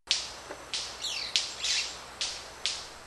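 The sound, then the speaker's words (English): A manakin, a small, colorful tropical bird, makes its mating call with its wings: a string of sharp, crackling snaps, about six irregularly spaced bursts with a brief buzzy whir in the middle, clear, with no talking. “That's the mating call of the manakin.”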